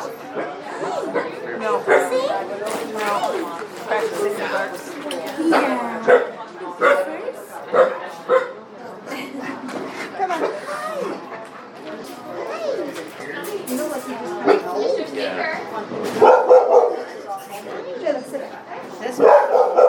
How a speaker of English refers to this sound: Catter Day occurred on February 17th, while the adorable Dog Adoption Day followed on the 18th. I'm going to insert a few clips from the dog event so you can enjoy both the human and the canine enthusiasm.